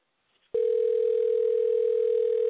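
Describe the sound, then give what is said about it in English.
A steady telephone dial tone cuts in abruptly after a brief near-silence as a call goes dead, holding at a constant loud pitch for about two seconds, with no voices. “No, I hit the phone and that's when it just went dead.”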